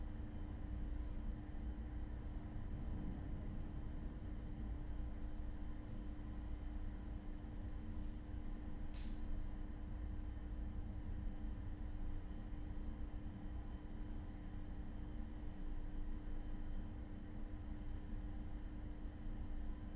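Steady room tone inside an enclosed glass pedestrian bridge on an upper floor between Building B and Building N: a constant low hum and airy background wash with no voices, broken only by one faint, brief tick midway through.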